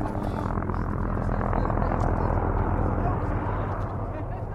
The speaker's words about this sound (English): As the helicopters buzzed into view, dust clouds rose in the distance from the desert floor, a telltale sign that the pilots had found bands of Mustangs and were chasing them to the trap, sometimes more than a 10-mile run.